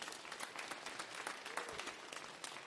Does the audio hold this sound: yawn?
no